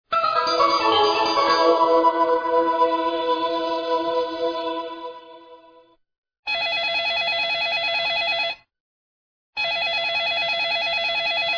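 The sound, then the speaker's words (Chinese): A telephone rings with no one picking up: a long, fading bell-like chime, then two steady electronic ring bursts separated by a short silence. Loud, with no voices. “Hello， 摩西摩西，喂喂喂，电话响了没人接，好，我们只好下一次再打了。”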